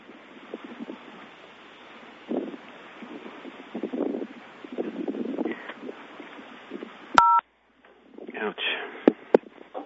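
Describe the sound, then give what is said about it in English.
A brief pair of bright electronic beeps, like a phone keypad tone, cuts in sharply over muffled, low-fidelity voices on a line, followed by a short dropout before the talk resumes. “Is somebody hitting the keys on their phone or something?”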